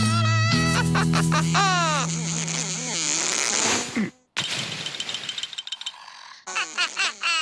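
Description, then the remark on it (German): A fly buzzes loudly, its droning hum swooping up and down in pitch, then breaks off and returns as a rapid stutter of short buzzing bursts. No one speaks. “Fliege, aber du störst doch die Spinne mit deinem lauten Gesumse.”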